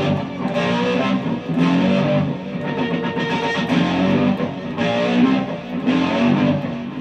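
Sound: distorted electric guitar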